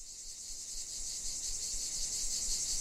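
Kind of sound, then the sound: insect, cicadas chirping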